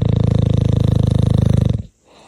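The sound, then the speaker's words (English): A recording of a dog's real snoring, loud: a buzzy, rattling drone that pulses steadily for under two seconds before cutting off abruptly into near silence. “Yeah, that's just real snoring, by the way.”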